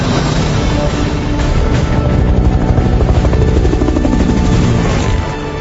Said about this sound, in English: Where are they going? Those choppers are coming back for them.